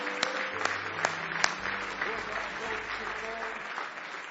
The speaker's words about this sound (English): Give him a hand clap of praise if you love him tonight.